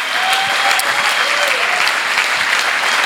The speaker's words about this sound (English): Huge round of applause. Come on, let's celebrate.